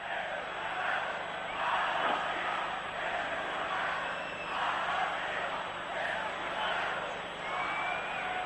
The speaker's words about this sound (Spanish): En el pabellón de Bercy ha habido algunos silbidos.